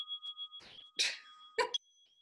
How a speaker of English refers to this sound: Sorry, can ignore the bell. Stop that.